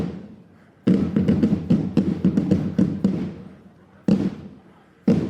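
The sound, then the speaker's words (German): A school drum group from the Dollinger Realschule, performing at a Schützenfest (marksmen's festival), pounds out loud, rapid, crisp beats with a deep booming undertone, then breaks off and lands a couple of heavy single strokes. “Eigentlich jede Trommlergruppe, wenn sie dann mal da ist und was macht, ist der Hammer.”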